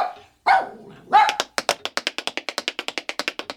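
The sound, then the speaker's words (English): A small dog, Bertie, lets out two or three sharp barks, then a fast, evenly spaced run of crisp tapping follows as the dog tap dances, like quick little dance steps on a hard floor. “Or your darling dog, Bertie, learning to tap dance?”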